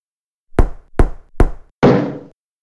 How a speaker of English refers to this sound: He takes the rod from Dora and knocks on the wooden floor. In one area of the bathroom, the sound is different.